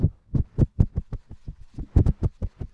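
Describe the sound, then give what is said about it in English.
A voice imitates a helicopter with a rapid, steady string of low, thumping mouth pulses, about five per second, kept up for a few seconds with no talking over it. “Think people want to hear your helicopter. My helicopter is mint.”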